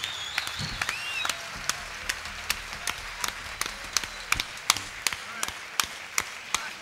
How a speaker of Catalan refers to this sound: Jo crec que es mereix un aplauso pel Rafa.